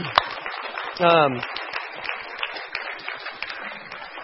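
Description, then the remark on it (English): An audience claps steadily for the children's team, a dense patter of many hands at a fairly even level, with one brief voice rising in a short cheer early on. “Yeah, it's totally okay to clap. You want to clap? Let's do it.”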